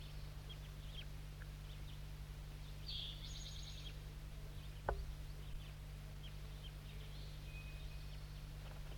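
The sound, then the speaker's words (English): Faint, high juvenile crossbill calls: a short burst of chittering notes around the third second, then scattered thin chips, over a steady low hum with one sharp click midway. “Mostly juvenile calls now.”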